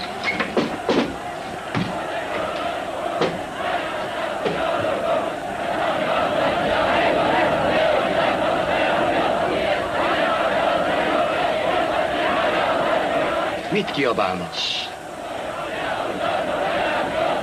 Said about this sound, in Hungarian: Kiabálnak.